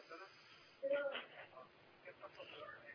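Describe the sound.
Muffled television chatter plays in the background at a young caller's end in Menoufia, heard over a narrow, tinny phone line, with indistinct voices rising and falling at a low, steady level throughout.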